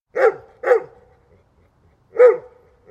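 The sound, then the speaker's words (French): A dog barks three times, with two quick barks close together, a short pause, then a single bark. The barks are loud, with no other sounds around them. “Les chiens sont interdits pour ne pas déranger la faune sauvage, sauf les chiens d'assistance et les chiens de travail de type chien de berger, bien sûr.”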